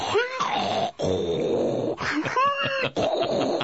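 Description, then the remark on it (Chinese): A person imitates Zhou Yu's snoring as he feigns sleep in the story of Jiang Gan, with a run of loud, drawn-out snorts and throaty rumbles, four or so in a row separated by short breaths. “周瑜也打呼，蒋干是周瑜是这个鼾声是不同的。”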